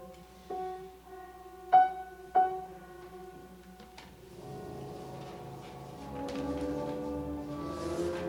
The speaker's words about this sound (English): Bells.